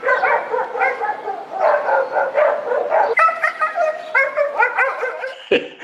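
A small dog yaps and barks excitedly in a rapid, nearly continuous series of high-pitched barks, loud, lasting several seconds with no one talking.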